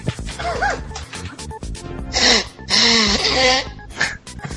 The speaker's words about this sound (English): I'm gonna blow my nose real quick. Tell me if you can hear this.